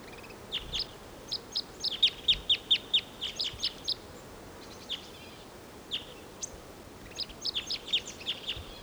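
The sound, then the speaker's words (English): A wild male bird sings in song flight after leaving a tall ponderosa pine in the distance: two bursts of rapid, high-pitched chirping notes in quick rhythmic series, separated by a brief lull with scattered calls, over a soft background hiss. “There's a singing male in the distant tall ponderosa pine.”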